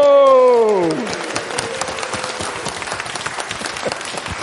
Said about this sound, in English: Come and take the applause, which is coming in a minute.